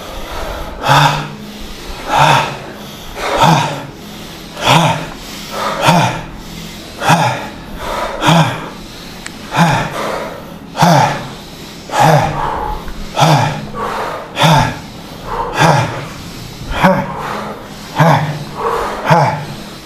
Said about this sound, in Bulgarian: А сега ускори дишането. Направи го на ковашки мях дишане, бастрика дишане. Влез в това дишане. Айде.